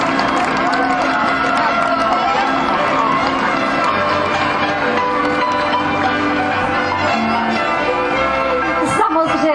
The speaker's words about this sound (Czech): Potlesk pro základní uměleckou školu v Uherském Hradišti a také pro Pavla Štulíra.